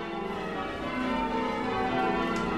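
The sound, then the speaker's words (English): Church bells at St. Michael's church in Chagford ring continuously in overlapping, resonant peals, rung by the church bell ringers, their sustained tones layering into a steady wash of sound with no voices present. “I'm one of the Chagford church bell ringers.”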